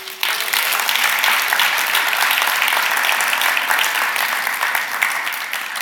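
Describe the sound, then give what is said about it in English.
A church audience gives a steady round of applause to thank a speaker, many hands clapping in a dense, continuous patter at an even loudness for several seconds, with no voices standing out. “Round of applause.”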